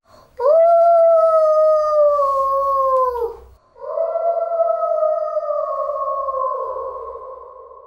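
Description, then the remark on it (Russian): A wolf howls twice from the forest, loud: two long, steady, wavering calls of about three seconds each, the second sliding lower in pitch as it fades out. “А из леса слышался вой волка.”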